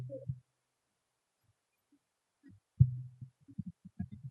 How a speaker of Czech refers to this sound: Já vám pustím zvuk tiskárny.